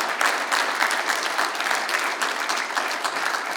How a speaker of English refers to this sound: Yeah, you clap for God. It's a good thing.